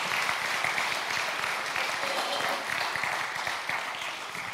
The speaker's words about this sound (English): Thank you, Kathy. Yeah, can y'all give Kathy a round of applause?